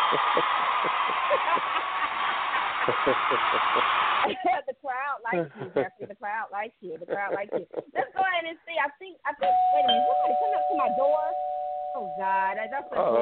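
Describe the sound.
After a burst of noisy cheering and some talking, a doorbell sounds as family arrives for a holiday visit, a steady, sustained mid-pitched tone lasting a few seconds while a voice keeps speaking over it.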